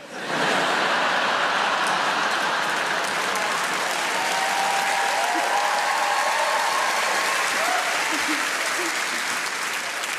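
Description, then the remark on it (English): Sustained audience applause, a dense, steady wash of clapping that holds at an even loudness for about ten seconds with no talking over it. “weird to applause that, isn't it?”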